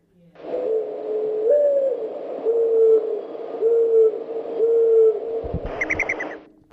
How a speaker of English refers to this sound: Morning dove. Absolutely right. Morning dove. Again, a bird known all over the country. We have other doves in this country. We have spotted doves and white-winged doves. Mourning doves are the most common backyard bird.